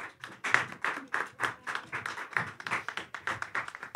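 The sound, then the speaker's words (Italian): An audience applauds steadily for about four seconds as the host announces the next performing company, a dense patter of many hands clapping at moderate volume, with no one speaking over it. “Adesso che abbiamo iniziato a applaudire, applaudiamo sempre quando io annuncio qualcuno.”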